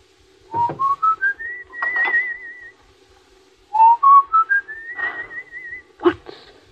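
Someone whistles a short tune, two rising phrases of stepped notes ending in a wavering held tone, with a sharp knock after the second phrase and no talking.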